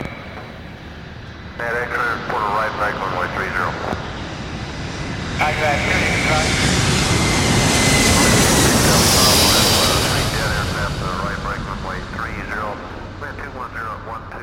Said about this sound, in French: Le 1er avril, l'avion se pose à Istanbul.